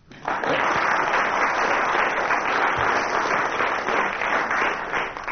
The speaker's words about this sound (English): The commissioners clapping there had misled us.